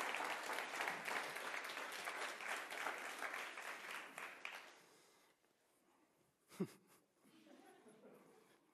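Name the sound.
audience applause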